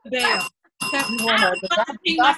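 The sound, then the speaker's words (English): A small bell rings with a thin, sustained metallic tone that lingers beneath people talking and laughing, the ringing briefly standing out before the voices take over again. “where's the bell?”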